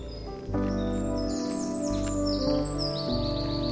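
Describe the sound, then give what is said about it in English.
A dunnock sings a quick, high, subtle fluting warble in short bursts, like 'tilu-tilu', at the south end of a meadow, fairly faint above a loud, steady, low harmonic drone that fills the background throughout. “I can hear a dunnock singing at the south end of the meadow here. It's quite a subtle fluting song.”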